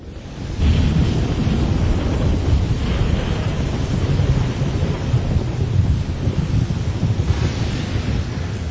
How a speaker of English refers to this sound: Lord Scourge raised the hood of his cloak as he stepped off the shuttle, a shield against the wind and pelting rain. Storms were common here on Drummond Kos.